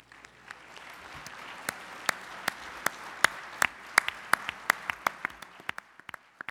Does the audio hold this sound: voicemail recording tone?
no